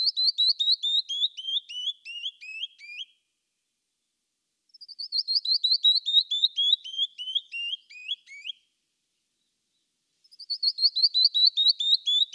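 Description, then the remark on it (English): A canyon wren's cascading song repeats three times: a rapid series of clear, sweet whistled notes sliding steadily down in pitch, each phrase separated by a short pause, with no voices present. “You may not see the canyon wren, but try conversing with it by whistling its song in reply.”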